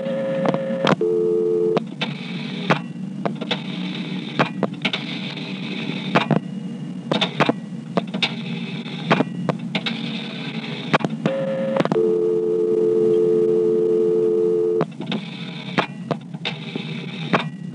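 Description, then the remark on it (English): A steady electronic telephone exchange dial tone drones continuously while sharp clicks and brief bursts of dial pulsing repeatedly cut in as 670 is dialed to drop the director, then 170, a vacant level, returning to dial tone; a short two-tone burst near the start and a longer tone toward the end. “I'm now going to dial 670 to drop the director, and then 170, which is a vacant level. That will dump me back to dial tone.”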